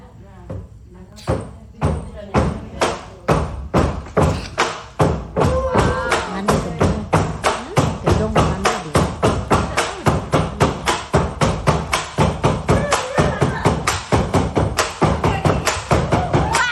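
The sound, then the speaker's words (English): Rhythmic wooden clacking of bamboo poles struck together in a steady, repeating beat that speeds up over time during a bamboo dance in Barrio, Sarawak, Borneo, with voices and shouting mixed underneath. “But, you know, in Barrio, they have a bamboo dance.”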